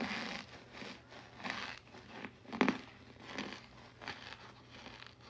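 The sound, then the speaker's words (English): Crunching of crispy food as a man bites the other half and chews, a series of crackly, crinkly bursts with one sharper crunch in the middle, fairly quiet and with no talking. “He gonna bite the other half.”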